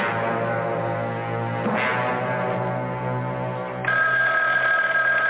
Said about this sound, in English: My goodness, that telephone never seems to stop ringing. Ever since the boys were in that plane accident, people have been calling to talk to me.